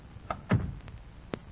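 A door is pushed shut with a soft, low thud, followed by a couple of faint clicks from the latch. Quiet, with no voices.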